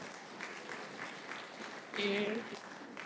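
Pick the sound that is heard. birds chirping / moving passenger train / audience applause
audience applause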